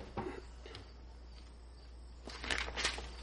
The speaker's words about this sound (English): Your recording is going to just have the noise of Baron chewing on that bone.